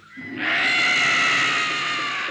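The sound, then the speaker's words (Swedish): A pair of bitterns give a loud call, rendered as a harsh, high, screeching cry that swells in quickly and holds steady for about two seconds, with no speech over it. “Ni rördromar kanske är små fåglar. Men vi har mycket starka röster.”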